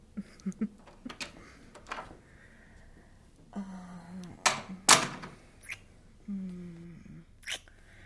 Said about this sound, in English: Here we are. Hang on, let me open the door.